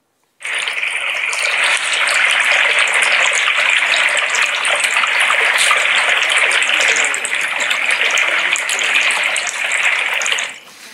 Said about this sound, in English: he says, "Dad, it sounds like there's water behind the wall." And I'm like, "No kidding, no kidding." Turns out our foundation had a leak in it and water was just pouring in from behind the wall